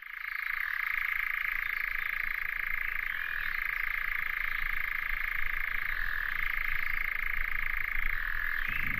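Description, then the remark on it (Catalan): A European nightjar, a brown bird with cryptic mottled plumage, churrs without pause, a steady mechanical trill like a chainsaw idling, with slight shifts in pitch every few seconds. No one speaks. “això és un enganyapastors, que és un ocell marró amb un plomatge variegat molt críptic”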